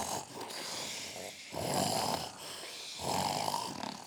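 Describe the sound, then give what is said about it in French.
Two loud, rasping snores from a man during the night, about a second and a half apart, each a long rough inhale, with quieter breathy noise in between and no talking. “Pendant la nuit, il ronflait.”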